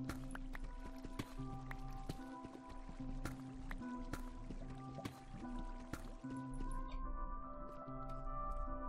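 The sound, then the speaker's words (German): Water flows and trickles steadily throughout in a cave, with scattered drips and small splashes, set against a soft sustained tonal background. “Ich höre eindeutig auch Wasser.”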